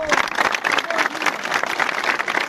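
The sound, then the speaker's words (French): A crowd cheers and claps continuously as two men leave the Borgo gendarmerie in Corsica with fists raised after their release shortly after 10 pm, a dense wash of applause and raised voices that stays loud and steady throughout without pause. “Libérés peu après 22 heures, les 2 hommes quittaient la gendarmerie de Borgo, le poing levé sous les acclamations de la foule.”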